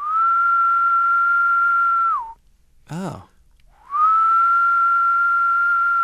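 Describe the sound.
A person whistles a long, steady tone imitating the mating call of a Decim periodical cicada, then a brief spoken exclamation, followed by another sustained whistle of the same pitch. Fairly loud.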